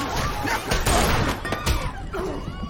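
Several glasses are thrown down and smash against a hard floor in quick succession, sharp crashes followed by bright tinkling shards, over a busy background of room noise.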